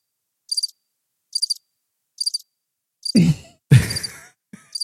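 A chirping sound effect of short, high-pitched trilling bursts repeating at a steady rhythm, joined near the end by two louder, low breathy thumps with the chirps continuing over them.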